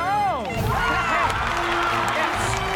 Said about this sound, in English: G-Girl takes off into the sky above the burning building at the head of a vapor trail. The crowd claps as the fire goes out.